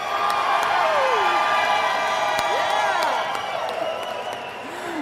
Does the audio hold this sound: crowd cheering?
yes